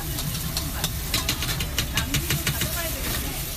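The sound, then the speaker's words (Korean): Onion, broccoli, cabbage, peppers, carrots and noodles sizzle and crackle steadily in a large oiled frying pan as a stir-fry is cooked in a cafeteria, with scraping stir strokes and a low kitchen rumble underneath, continuous. “커다란 프라이팬에 올려진 재료들이 곧바로 기름을 두른 팬 위에 익혀져서 접시에 담깁니다.”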